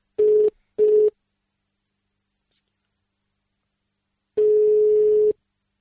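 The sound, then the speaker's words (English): Telephone line tones at one steady pitch as a call is placed again: two quick beeps, a pause of several seconds, then a longer ringing tone, fairly loud and clear with no voices. “Call that douchebag up again.”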